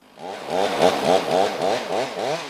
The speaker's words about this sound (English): A chainsaw chews through a cedar nearly as old as Stanley Park until a massive chunk crashes to the ground that's already punctuated by dozens of stumps.